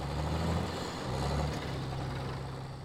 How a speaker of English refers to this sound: She's nearly back to the house when she sees Cody cresting the hill in the old service truck.